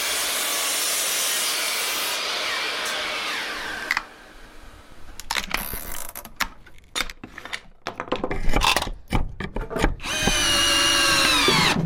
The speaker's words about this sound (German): Diese dicken Balken, die werden die Tischbeine und ich mache die jetzt mal auf 75 cm ungefähr. Und dafür verwende ich die Kappsäge, was sehr laut ist.